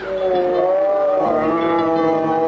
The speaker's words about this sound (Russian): Тигры!